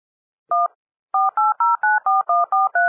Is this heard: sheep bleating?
no